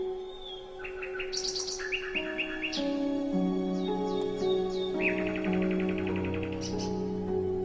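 nightingale song

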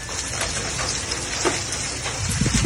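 hailstones falling

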